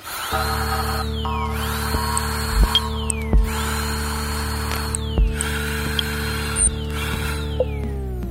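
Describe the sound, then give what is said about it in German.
A dental drill turbine in a dental practice whines at a high pitch, swooping up and dipping in repeated cycles over a steady low mechanical hum, with a few sharp clicks between them. “Das kriegt man, das ist beim moderner Neubau, so dass die Türen sind relativ dicht, aber man hört schon ein bisschen was, wenn man die Turbine anhat.”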